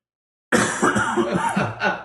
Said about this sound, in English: Because you just coughed into your microphone.